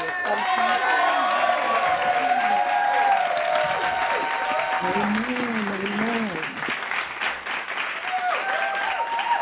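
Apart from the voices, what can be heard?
audience clapping and cheering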